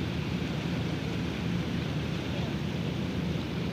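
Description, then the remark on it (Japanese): A somewhat larger fishing boat passes from left to right, its engine droning steadily in a low continuous rumble with a faint tonal hum, blended with open outdoor ambience and no voices; recorded around 6:05 a.m. on 2 November 2011. “今船が左から右に、ちょっと大きめな漁船が、大きめといってもそんなに大きくもないですけど”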